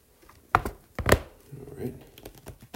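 Typing on a computer keyboard: a few sharp, loud key taps followed by softer, irregular clicks, with a faint low murmur underneath.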